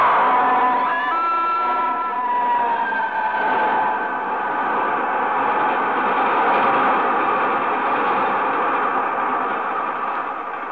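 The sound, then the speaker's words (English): A train coming the other way rolls along the tracks in a steady, loud, unbroken roar, with a thin metallic squeal ringing over the rumble in the first few seconds. No voices. “Now there's another train coming the other way.”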